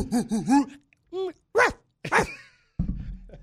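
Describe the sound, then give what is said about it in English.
A person imitates a big dog, letting out a string of short, throaty barks one after another, fairly loud, followed by a brief rough noise at the end. “Could you bark like a dog? Arf, arf. A big dog.”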